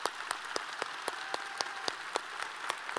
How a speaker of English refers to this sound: So can we just give a round of applause for our soldiers for just a second?